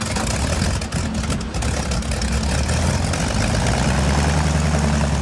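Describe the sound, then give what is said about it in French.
A seaplane's propeller engine idles with a steady, throbbing low-pitched rumble and a broad hiss, growing slightly fuller midway through and holding loud and continuous with no voices, as the seaplane prepares to leave England for sub-Saharan Africa on 6 August 1940. “Ce jour-là, un hydravion quitte l'Angleterre pour rejoindre l'Afrique subsaharienne.”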